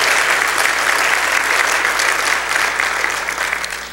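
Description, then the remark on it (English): An audience clapping hands together in sustained, dense applause for about four seconds, giving the Lord a hand clap, a steady crackling wash of many claps that tapers slightly at the end, with no speech. “If you have that assurance this morning, give the Lord a hand clap.”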